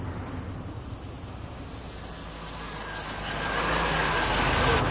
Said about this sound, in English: Oh, what's going on here? What are all these cars doing blocking the... not another Tim Hortons.